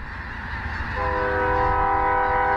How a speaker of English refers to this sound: It's snack time for thousands of snow geese at these Arkansas fields of rice and wheat. Researcher Drew Fowler recorded this video last year while collecting geese for a study.